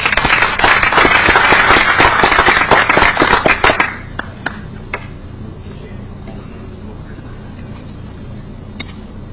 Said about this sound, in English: So once again, let's give a round of applause.